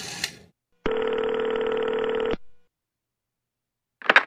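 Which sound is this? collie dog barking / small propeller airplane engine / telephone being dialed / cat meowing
telephone being dialed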